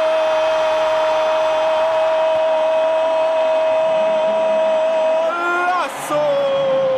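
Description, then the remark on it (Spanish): A football commentator's goal scream after the call "se perfila, tira y gol" in a BBVA Bancomer radio advertisement, one loud, unbroken note held for about six seconds over a noisy background, wavering and dipping in pitch before it ends. “Si este grito de gol duró más que tu quincena”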